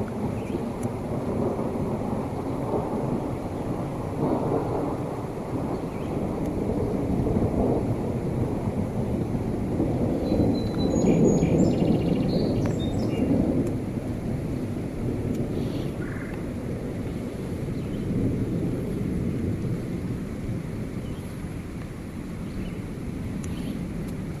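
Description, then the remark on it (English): A thunderstorm with cold rain: deep, rolling thunder rumbles continuously under a steady hiss of rainfall, and a few brief, high chirps from a bird in a tree break through midway. “Although that cold rain does feel good.”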